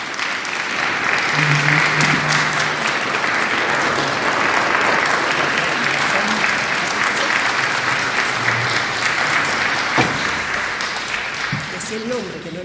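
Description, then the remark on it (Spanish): A crowd claps steadily for about twelve seconds to welcome a guest's mother, a dense, sustained wash of applause at an even, loud level, with a few faint voices and cheers mixed in beneath the clapping. “pero está con nosotros su mamá, a quien vamos a recibir con un fuerte aplauso”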